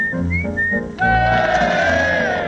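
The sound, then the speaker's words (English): A person whistles an imitation of blackbird song: a few short, bright, rising phrases, then a louder, fuller warbling passage that holds steadily to the end. “Ladies and gentlemen, a few imitations of well-known British birds. My first will be the blackbird.”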